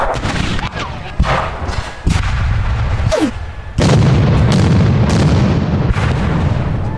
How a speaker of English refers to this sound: An incoming shell landed just beside the leading mule. It exploded, killing the animal instantly and igniting a secondary explosion of the munitions it was carrying.